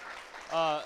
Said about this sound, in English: Hey, let's give her a round of applause for being so amazing, yeah?